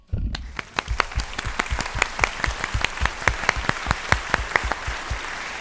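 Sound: applause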